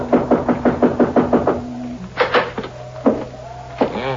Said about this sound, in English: I guess we knock. It's polite.